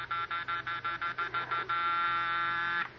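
A doorbell buzzer sounds in about eight quick rhythmic bursts, then holds one long steady buzz for over a second before cutting off. Harsh, nasal electric tone with no voices.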